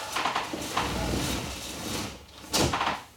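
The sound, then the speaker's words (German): A window being shut: a scraping, sliding rumble followed by a firmer clunk near the end, with a softer knock earlier on. No one speaks. “Ganz an soll das Fenster eigentlich noch zumachen?”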